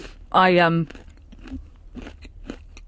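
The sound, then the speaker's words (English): Someone crunches on a Dime chocolate bar, a string of soft, crisp bites and chewing clicks following a brief voiced hum. “Sorry, I'm crunching on my dime bar.”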